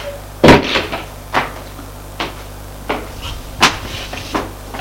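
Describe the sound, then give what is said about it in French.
The door of the mayor's office on the first floor being opened as a doctor enters: a sequence of about six sharp wooden clunks and rattles, spaced unevenly over a few seconds, fairly loud against a quiet hum with no voices. “Au premier, il frappe à la porte du bureau du maire. Entrez. Il entre.”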